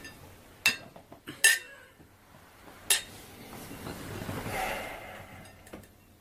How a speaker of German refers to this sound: So, da sind wir wieder zurück und würden sagen, wir stoßen jetzt mal mit unserem frischen Glas, eiskalt, mit Olive an.